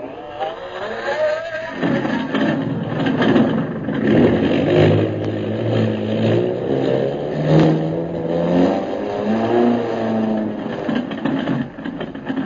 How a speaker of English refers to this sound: Meanwhile, after getting the airplane repaired, Jungle Jim, Hawkins, and Kolo prepare to take off for Mandalay. Turn the motors over, pilot. Can do.